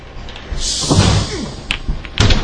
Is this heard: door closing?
yes